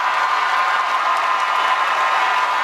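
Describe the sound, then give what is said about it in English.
A large audience applauds steadily after a young person asks Senator Rubio whether he will refuse NRA donations, a dense wash of many hands clapping at once, loud and sustained throughout with no individual claps standing out and no voices speaking over it. “Then they really started clapping.”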